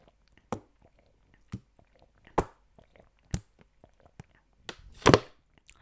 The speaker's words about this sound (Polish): Czekajcie, wezmę tego łyka wody albo dwa, albo trzy, jeszcze nie wiem.